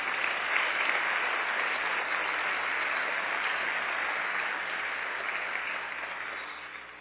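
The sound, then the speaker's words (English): A church audience applauds a group, sustained applause, a dense steady wash of many hands clapping that holds evenly for several seconds and then gradually tapers off toward the end. “Let's hear it again for this group.”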